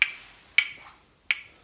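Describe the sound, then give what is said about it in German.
Hooves clatter on a rainy morning in four sharp, hollow clacks with uneven gaps between them, each a bright percussive knock that rings briefly. No one speaks. “Man hörte Hufe klappern.”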